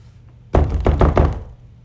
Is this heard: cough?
no